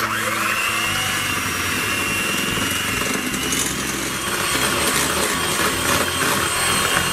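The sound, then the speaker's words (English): An electric mixer runs on low, mixing a batter with 2 eggs, 3/4 cup of milk and 125 grams of melted butter: a steady, buzzing motor whir with a thin high whine that holds for the whole stretch at an even, fairly loud level, with no voices. “You can use a mixer, a blender, or just a mixing spoon. Just start on low.”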